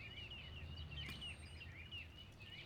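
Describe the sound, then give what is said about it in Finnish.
Soft, continuous birdsong of quick, warbling chirps repeating over a low, steady outdoor rumble, with one brief sharper click partway through, from birds in their spring breeding season at the Vatnsmýri wetland nature reserve in central Reykjavík, Iceland. No one speaks. “Kuuntelemme kuitenkin nyt lintujen ääniä niiden keväiseen pesimisaikaan, sillä väliin kun kävelemme rakennuksen ympäri.”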